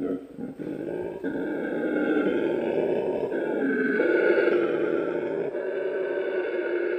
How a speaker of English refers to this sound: It's really strange, isn't it? It's like a cross between a lion and a frog or something. it really is amazing. They sound like it's a much bigger animal. That was actually the sound of a 7-kilo howler monkey.